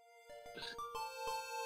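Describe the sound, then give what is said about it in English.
A personal cell phone ringing with a melodic electronic ringtone, a few sustained tones stepping between pitches at a steady pace, fairly quiet and heard on its own without talking. “This is my personal cell phone”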